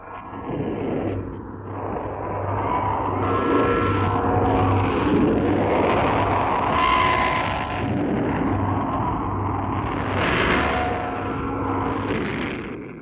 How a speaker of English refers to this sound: announcer in that city as he opened the microphones on what sounds like a steady roar, but is actually the sound of 2,000 saluting cannons intermingled with the bells of the Kremlin. Listen now to 2,000 guns proclaiming Russian Victory Day.